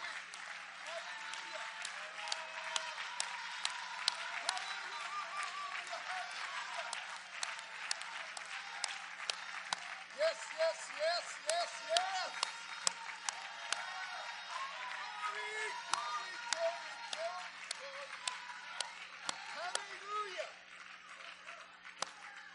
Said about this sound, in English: Oh, let's all clap our hands for the Lord.